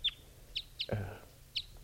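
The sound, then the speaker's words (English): Four short, high-pitched bird chirps ring out at uneven intervals as a bird is caught in a net while others remain free, with a brief louder, lower rustling burst in the middle and a low background hum throughout. “So there's one bird in the net, and there are four still free.”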